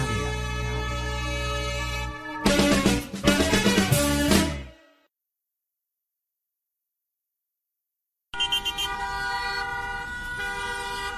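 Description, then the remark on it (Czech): Car horns blare loudly: a long sustained honk, then a burst of choppy, overlapping toots, a few seconds of silence, and another steady horn blast to finish. “Aspoň vidíte, to jsou pecky, to je auta, aut, je to úplně úžasný.”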